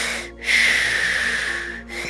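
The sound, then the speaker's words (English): A voice imitates wet, heavy breathing: one long, loud, hissy exhale with a raspy, moist texture, framed by brief inhales at the start and end. No words are spoken. “letting me hear the difference between wet, heavy breathing and heavy Well, like breathing.”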